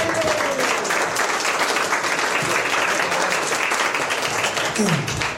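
A crowd breaks into sustained applause, a dense, steady wash of many hands clapping at full volume for several seconds, with a few faint voices and whoops mixed in.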